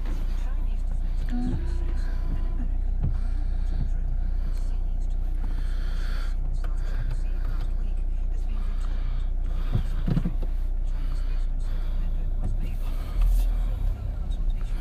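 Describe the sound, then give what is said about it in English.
A car drives along with a steady, low engine and road rumble that holds at an even loudness throughout, with faint, indistinct murmuring under the noise. “I'm taking the car by myself and I'm away.”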